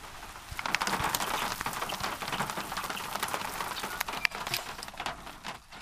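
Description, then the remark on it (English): Droppings from a flock of great-tailed grackles patter irregularly on a car with sharp little taps, a few louder smacks, over a steady hissing wash of flock chatter. “You can hear the blackbird rain hitting my car in this recording near a flock of great-tailed grackles.”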